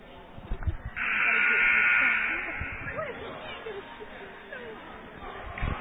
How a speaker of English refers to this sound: And the timeout is over. Buzzer.